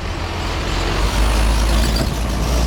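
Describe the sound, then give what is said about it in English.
Heavy commercial trucks carrying fruits, vegetables and machine parts idle and rumble after crossing the Far International Bridge into the U.S., a deep steady engine drone with the hiss of air brakes releasing, no voices, just continuous loud traffic noise at a busy crossing. “Every day, more than 40,000 commercial trucks cross over the Far International Bridge, carrying things like fruits, vegetables, and machine parts.”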